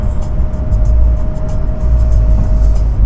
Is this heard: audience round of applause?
no